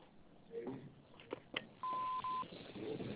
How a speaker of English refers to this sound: We're unable to come to the phone. After the beep, please leave your name and number. Thank you.